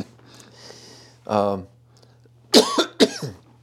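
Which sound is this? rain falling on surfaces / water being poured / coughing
coughing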